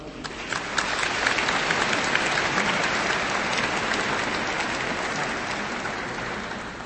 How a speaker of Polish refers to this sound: Szanowni Państwo, jeszcze jako ciekawostkę chciałbym dodać, że w chórze występuje nasza braniewianka. Także tym bardziej nam miło i ogromne brawa.